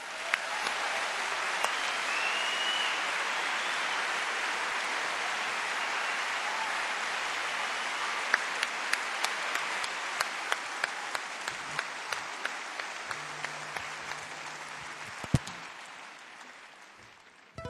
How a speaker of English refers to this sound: Maintenant, je vais vous présenter le guitariste. Il vient de Suède et qui était dernier guitariste …. Veuillez applaudir ….